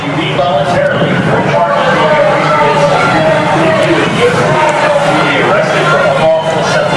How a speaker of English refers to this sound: That's the NYPD trying to break up the crowd near Chinatown Saturday night. At least 18 arrests.